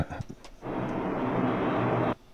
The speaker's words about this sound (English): Okay. Waiting for an airplane.